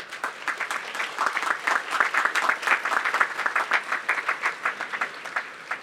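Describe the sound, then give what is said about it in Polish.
Audience applause for two families from the Kalisz diocese, near Kobyla Góra, fills the whole stretch, a dense crackle of many hands clapping at a steady, fairly loud level, with a few sharper individual claps standing out near the end. “a naszym rodzinom też jeszcze może przydałyby się jakieś oklaski.”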